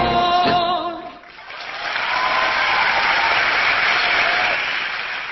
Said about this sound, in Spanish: Los aplausos en vivo de la Cita Rosa